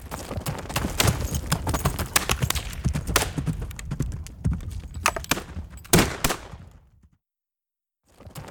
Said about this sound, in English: Gunshots! Come on, men!